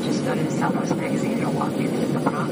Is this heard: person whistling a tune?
no